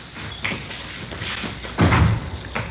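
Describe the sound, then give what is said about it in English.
A door is handled: a latch clicks, then the door swings and shuts with a solid, low thud, followed by a softer knock as it settles. “Here, I'll get the door.”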